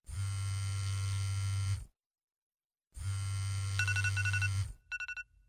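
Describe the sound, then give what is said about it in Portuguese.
At night, an alarm clock rings loudly in two harsh, buzzing bursts separated by a short pause, the second ending in a few quick rattling clangs. “Ainda é noite, mas o despertador já toca.”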